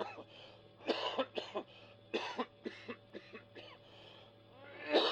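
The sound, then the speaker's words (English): A man coughs in a cluster of sharp, hacking bursts, a few at a time with short pauses between, moderately loud, ending with one more heavy cough. “I heard him cough. Did you hear that cough?”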